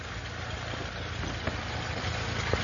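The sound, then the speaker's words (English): The engine of an antique airplane built in 1909 idles before takeoff with a steady, throbbing low rumble and a broad mechanical hiss, holding an even loudness throughout, with a couple of faint clicks over the drone. “Yeah, preparing for takeoff here.”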